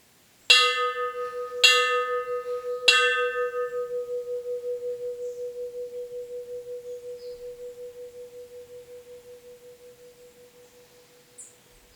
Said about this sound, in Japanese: 貼り紙。ご用の方はこの鐘を3回鳴らしてください、ポンポコ寺だって。